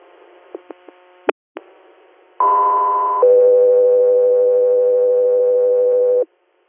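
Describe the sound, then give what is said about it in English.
Over a faint hissy radio channel, a few quick clicks give way to two long, loud steady dispatch alert tones: a higher one for about a second, then a lower one held for three seconds, ahead of an air standby request from Tompkins County, New York. “3 here, stand back with Tones.”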